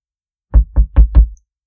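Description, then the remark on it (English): Four firm knocks on a door in quick, even succession, loud, with a low thudding body, followed by silence. “Who's at the door?”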